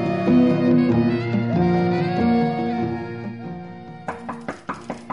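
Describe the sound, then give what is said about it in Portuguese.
Sustained orchestral music plays, then gives way to a series of sharp knocks on a wooden door, about five raps in quick succession, as a man knocks at a lawyer's door at nine at night in May 1789. “Um homem misterioso bate à porta do advogado e poeta Cláudio Manuel da Costa.”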